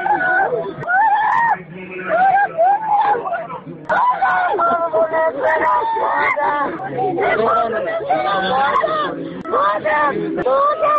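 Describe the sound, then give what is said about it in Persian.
The mother of a young man, whose son has been killed, wails and cries out in anguish, her voice rising and breaking in long, sobbing bursts, loud, with a murmuring crowd of other voices around her throughout. “کسی جلودار فریادهای مادر … نیست.”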